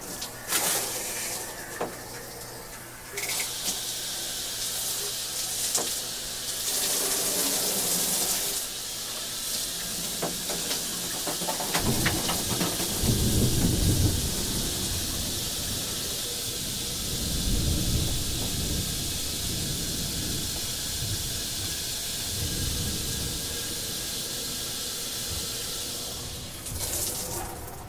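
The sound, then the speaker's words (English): Shower water runs steadily in a bathroom for nearly half a minute, a dense hissing spray that swells louder in the middle with rougher splashing and low rumbling, then continues evenly without any voices. “A box. Perfect for taking a shower.”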